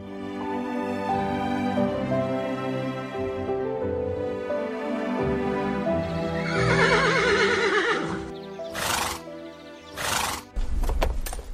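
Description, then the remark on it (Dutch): A trotter horse whinnies loudly and at length, its shrill neigh wavering up and down, then a few sharp clip-clops of hooves and a snort to end. “En dan schrijft de pater nog iets meer over zijn trotter, waarmee hij dus zijn nieuw paard bedoelt.”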